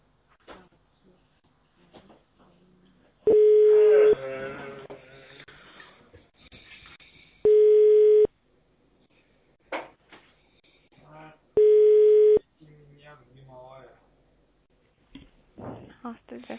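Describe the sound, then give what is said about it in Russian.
A phone line rings out unanswered on a call to the ASTA association: three loud, steady ringback tones, each under a second, spaced about four seconds apart, with faint voices and clatter in the gaps. “Валерий телефон не взял, скорее всего, на месте нет.”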